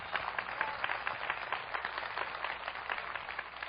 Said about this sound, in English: Hallelujah. We give the Lord a big clap of praise. Hallelujah.